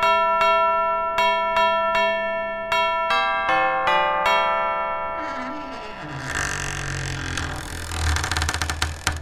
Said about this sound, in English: can't believe it's that time again, and I can't believe I'm in Lapland, and here we are outside Santa's grotto. So let me find the bell here and press the button, and we'll see who's in.